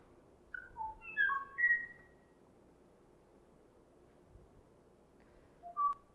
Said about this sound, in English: And we actually have a bit of a soundtrack of this one, just so you get a feel for it. And you can hear the kwai-au calling out in the far, in the ambient sound of the forest, and there is no other bird to answer its call.